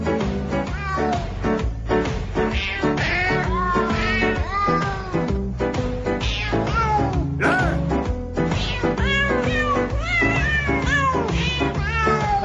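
Cat meows pitched and sequenced into a Christmas song, playing loud and continuously over a full musical backing, one yowl after another following the melody, with no one talking.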